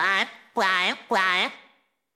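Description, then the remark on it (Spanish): A person imitates a rooster's crow with three loud, drawn-out vocal bursts that rise and fall in pitch, the last one trailing off into silence. “Tolito era un gallo que vivía muy feliz. Cuando el sol aparecía para el Tolito cantaba así.”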